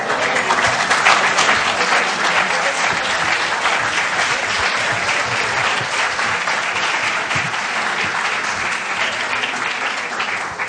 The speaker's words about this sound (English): It looks like a great crowd this evening. All the applause don't have to be for me.